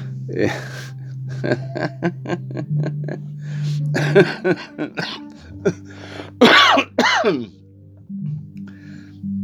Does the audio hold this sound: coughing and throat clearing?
yes